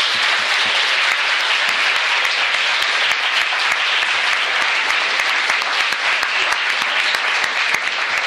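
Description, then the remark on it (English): An audience breaks into a sustained round of applause for the speakers. Many hands clap in a dense, steady wash that stays loud and even for the full eight seconds, with no voices heard. “Can we just get a round of applause for our speakers?”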